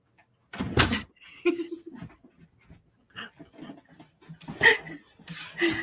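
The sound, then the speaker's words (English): A door is opened to let Gabby the dog out, with a couple of sharp clunks and scrapes, while the dog pants and shuffles, a faint whine mixed in. “I'm going to let Gabby out.”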